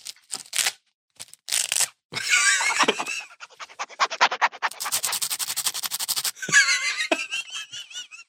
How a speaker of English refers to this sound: I'm sure people who can't stand Velcro just like cringe multiple times right now. Like, what? So my toolkit has a zipper if you don't prefer, if you prefer non-Velcro options. But mine sounds cooler, though. Wait, listen to this.